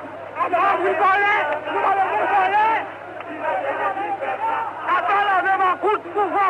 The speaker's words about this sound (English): Now the crowd's really grown. There are thousands on the street now, and they seem to be heading for the National Palace. People running in the style that you see on television in South Africa.